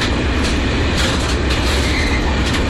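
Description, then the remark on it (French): A train rumbles past, its wagons clattering over the rails in a loud, steady roar with faint rhythmic clacks and some high metallic hiss. “Les trains qui tirent des wagons vides sont plus rapides. Les trains chargés passent plus lentement.”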